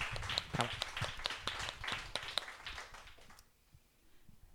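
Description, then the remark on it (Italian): A burst of audience applause, many hands clapping in a dense, crackling patter that fades out after about three and a half seconds, with a few voices mixed in. “Quindi inizierei con un incoraggiamento di applauso.”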